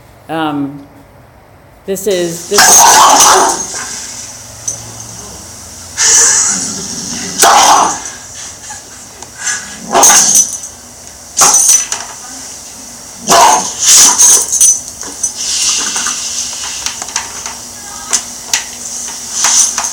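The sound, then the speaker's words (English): A dog barks at other dogs at a dog park in loud, irregular bursts, with short pauses between outbursts and a steady outdoor background hiss underneath. “So this guy was taking the dog to the dog park, and with half the dogs he'd do this, and half the dogs would get along with him.”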